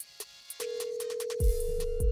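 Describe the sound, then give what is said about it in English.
A phone ringtone: after a few sharp clicks, a steady mid-pitched electronic tone sounds continuously, joined partway through by a low, buzzing pulse. No voices. “Answer your phone.”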